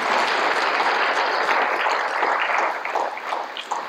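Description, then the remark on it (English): A church audience applauds itself on a Sunday, steadily for about four seconds, a dense wash of many hands clapping at once that stays loud and even before thinning slightly toward the end. “So, hey, give yourselves a round of applause on this Sunday.”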